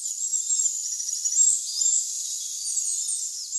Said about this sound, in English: The bird was small and gray, no eye catcher this, but Harris and his colleague Pam Rasmussen from Michigan State University were able to record one of these birds in the forest just once, a melodious, high-pitched song.